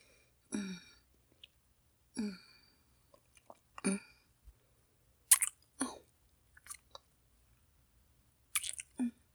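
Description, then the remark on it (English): Wet gum chewing with soft smacks and sticky clicks, arriving in irregular bursts separated by brief quiet pauses. No one speaks. “Daddy, I swallowed it. Swallowed all your gum, Daddy.”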